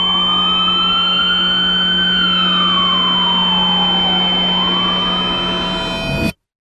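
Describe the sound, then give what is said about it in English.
A loud ambulance siren wails with slow rising and falling sweeps over a steady low engine drone as ambulances arrive at the scene, holding strong for several seconds before cutting off abruptly. “The ambulances came soon after.”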